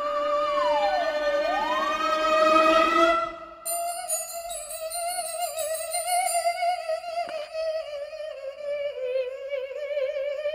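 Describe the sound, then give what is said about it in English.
Loud alarm bells blare in Los Angeles without any talking: a harmonically rich tone swoops down and back up, then holds as a steady, slightly wavering wail for the remaining seconds. “Why in God's name are those bells ringing?”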